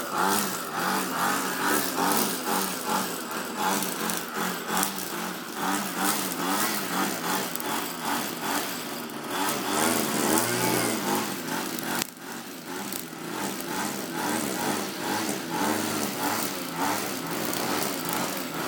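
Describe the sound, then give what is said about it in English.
A petrol-powered garden trimmer engine whines steadily and loudly, its pitch wavering slightly as it revs up and down, running without a break for the whole stretch as a man uses it to cut the whole garden. “Actually, he's doing the whole garden with it, so I don't... It is good for edges, though, where you can't get it with normal lawnmowers.”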